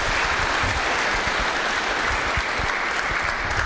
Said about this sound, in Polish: Witam panów serdecznie, jeszcze raz gromkie brawa.